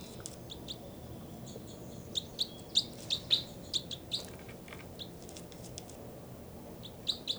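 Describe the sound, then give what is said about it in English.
Two birds, numbered 305 and 306, call and chitter back and forth in quick, high-pitched bursts, a cluster of sharp chirps in the middle followed by scattered calls over a low, steady background rumble. “I can't really tell who's who. Both birds mainly.”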